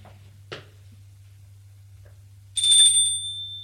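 doorbell ringing

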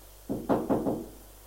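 knocking on a door

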